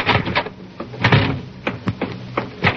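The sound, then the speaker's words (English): A door being opened on a Jack Benny radio comedy as Rochester answers it: a run of clicks, knocks and rattles from the latch and handle over a few seconds, with no one speaking. “Hurry up and see who's at the door.”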